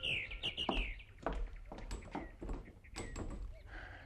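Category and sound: bird, small birds chirping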